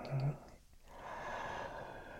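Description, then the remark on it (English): Close breathing right up against the microphone: a short, breathy intake, a brief pause, then a long, airy exhale that fills the rest of the moment. No one speaks. “Breathing.”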